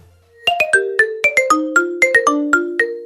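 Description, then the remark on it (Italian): The classic Nokia mobile phone ringtone melody plays alone: thirteen quick, bright synthetic notes in a bouncy rhythm, loud, with no voices. “È il suo marchio sonoro inconfondibile.”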